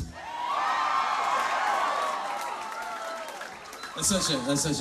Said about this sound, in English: It's such an easy way to get like a little bit of applause.